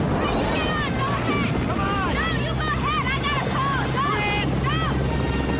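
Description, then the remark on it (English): A Red Cross helicopter waiting on the ground at a refugee camp, its engine and rotor droning steadily and loudly, a constant low rumble running throughout while several voices call and talk over it. “A Red Cross chopper waits on the ground.”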